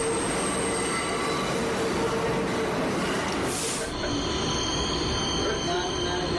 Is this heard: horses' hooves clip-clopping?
no